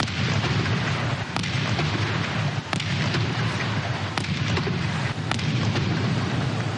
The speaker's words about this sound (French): C'est en ces termes que le président Muhammad Buhari a prêté serment pour son deuxième mandat à la tête du Nigeria. Une prestation marquée par 21 coups de canon.